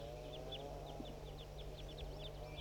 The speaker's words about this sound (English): Recordings 4-3 and wild birds as well. 4-3 mostly. The soft ones are wilds.